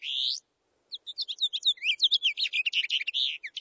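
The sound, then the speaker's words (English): A male house finch sings a lively, rambling warble of quick, varied high notes, opening with one short call and then running continuously for several seconds, clear with no talking. “There is a common songbird at your bird feeder this winter that can do just this. It is the male house finch.”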